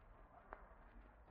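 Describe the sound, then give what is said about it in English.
A single loud, sharp firecracker bang bursts out after a stretch of near silence, preceded by a faint small tick. No voices are heard. “That firecracker exploded into thin air.”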